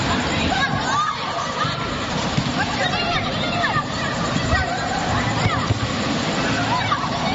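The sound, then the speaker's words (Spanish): Children playing basketball outdoors in the early hours of the night in the Guanarteme neighbourhood of Las Palmas de Gran Canaria, heard as a steady wash of shouting and chatter over constant outdoor background noise, with overlapping voices rising and falling throughout. “Lo que escuchas son niños jugando al baloncesto, una circunstancia que puede parecer normal, pero no tanto si hablamos de que este sonido está grabado de madrugada.”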